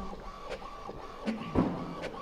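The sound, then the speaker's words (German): A printer runs steadily with a mechanical hum, punctuated by rhythmic clicks and short whirring bursts as a page about the Snowden case feeds through, printed at an exhibition to hang on the wall, with no voices. “Also jetzt kommt da unser Snowden-Fall direkt aus dem Drucker rausgeschossen.”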